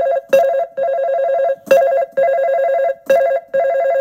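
A telephone rings with a rapid warbling electronic tone, repeating in short bursts separated by brief gaps, loud with no voices.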